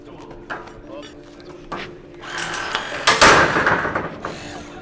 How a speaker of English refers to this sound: which are actually a battery operated Jaws of Life type unit. All it is a battery, you slap it on, press the power button. And same thing, open, close. So you would use this for breaching doors, opening doors, ripping them open.